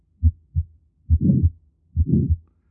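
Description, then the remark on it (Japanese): Heart auscultation: a clean pair of low, dull first and second heart sounds, lub then dub, is followed by two more beats whose gaps fill with a harsh, whooshing, high-pitched holosystolic murmur. No voices are present. “再び1音と2音に変えります。”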